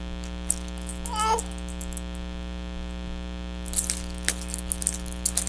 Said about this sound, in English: Look at the keys. Yeah. Yeah. Jingle, jingle, jingle. Jingle, jingle, jingle. Keys. Keys, yep. Keys. Keys.